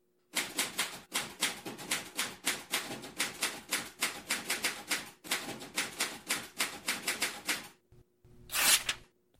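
typewriter typing

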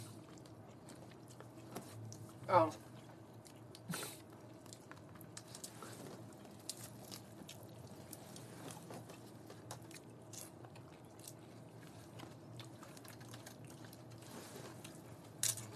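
chewing and biting food

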